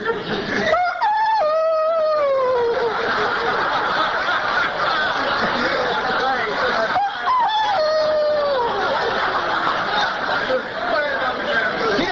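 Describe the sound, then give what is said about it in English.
A rooster crows twice in the dark to the hen house, loud, each call a strained rising then falling cry, the second about six seconds after the first, over a constant hiss of background noise. “When he crow, imagine this in wings.”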